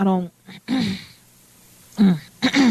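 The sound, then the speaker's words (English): A person clears their throat several times in short, voiced bursts with gaps of quiet between them, fairly loud, like a pointed 'ahem' made while waiting for someone to say something. “I'm clearing my throat waiting for you to say something.”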